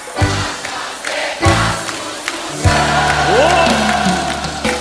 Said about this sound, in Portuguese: Moçada de Porto Alegre cantando junto, gritos de liberdade, eu quero ver! Vento, cavalo, peão! Vocês aí, quero ouvir!